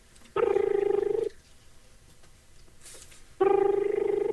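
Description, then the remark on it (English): A Skype call ringtone rings twice on a computer, each burst a steady, buzzy, mid-pitched tone lasting about a second, separated by a two-second pause with faint background noise. “Yeah, a little ringing, huh?”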